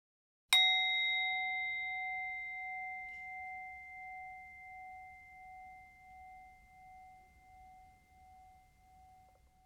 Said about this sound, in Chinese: 待会钟声响起之后，你便开始这个练习。